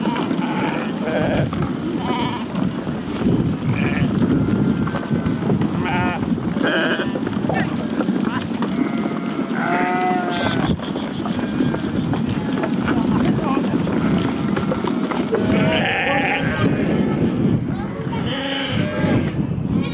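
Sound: sheep bleating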